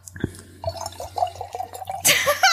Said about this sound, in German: Ich lass das drin, das ist dir klar, ne? Was? Ich lass das drin, wie du das Glas füllst.